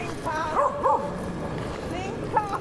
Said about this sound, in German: Halt die Fresse, Hund.